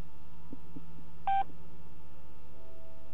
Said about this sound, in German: Die Zeitansage war eine Art Auskunftsdienst, der rund um die Uhr zur Verfügung stand und einem die exakte Zeit in regelmäßigen Intervallen von 10 Sekunden durchsagt. Beim nächsten Ton ist es 21 Uhr, 51 Minuten und 30 Sekunden.